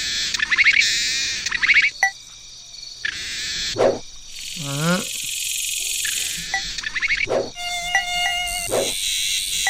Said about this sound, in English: One more mosquito.